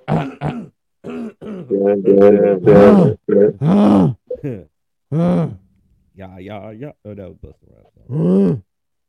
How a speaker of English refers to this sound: Let me clear my throat.